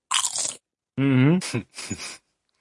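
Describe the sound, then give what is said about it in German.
Loud, crisp crunching of potato chips in a few short bursts, broken up by a brief voiced murmur partway through. “Boah, ich muss jetzt echt diese Chips wegstellen, sonst greife ich dabei immer rein.”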